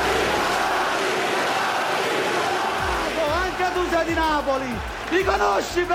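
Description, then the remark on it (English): A dense, loud crowd roar gives way to overlapping angry shouts and yells from many men, rising and falling in chaotic bursts as politicians brawl on the Italian parliament floor, throwing punches and grabbing one another while MPs yell "Thieves!" “On the parliament floor, there are punches being thrown, people being grabbed.”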